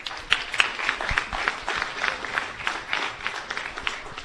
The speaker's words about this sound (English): A round of applause for all of them.